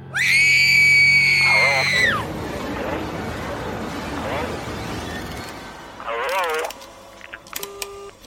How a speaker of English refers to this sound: it was on that word, Al, that a bone-chilling scream ripped through the house, and it came from the bedroom